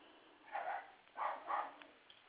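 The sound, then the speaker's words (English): A dog barks three times in quick succession, one bark followed by a close pair, with a thin, fairly high tone and no one talking over it. “your dog's saying peace too, right? You heard him?”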